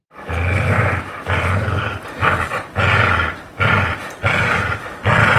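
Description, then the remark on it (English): A dog's playful growl, recorded while the dog was playing, loud, in a series of about six rumbling bursts separated by brief pauses, with no other voices. “Growl B was the play growl.”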